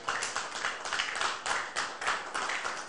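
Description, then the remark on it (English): An audience claps steadily in sustained applause as a clap offering to Jesus during a prayer service, dense overlapping hand claps with faint rhythmic surges, continuous for the whole stretch without any voices on top. “For answers to our prayers and for the word this morning, give Jesus the biggest clap offering.”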